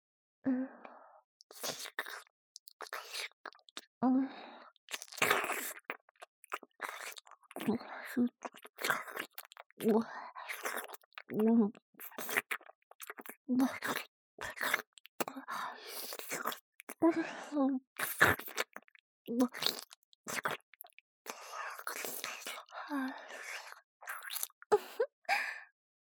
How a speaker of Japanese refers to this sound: まあまあ、大変ですわ。舌ですするたびにどんどんお汁が出てきてしまいました。